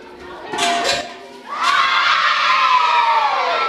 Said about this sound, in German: Der Jubel ist unglaublich. Eine halbe Stunde Pause steht auf dem Stundenplan.